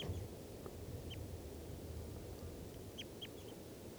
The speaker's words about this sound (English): Wild birds. Definitely type two. I heard them calling as they flew in. Wild. Both birds calling there.